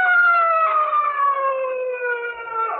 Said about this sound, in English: Listen, hey, that's a police siren. Sounds like they're almost on top of us.